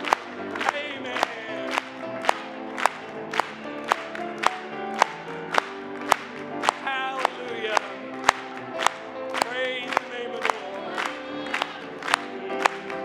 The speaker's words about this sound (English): Let's just clap it one more time.